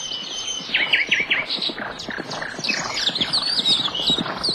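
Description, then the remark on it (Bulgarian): Hooves of wild horses pound in a quick, steady galloping rhythm, continuous throughout, while birds chirp and trill brightly overhead. “Тичат и гонят зимата от телата си.”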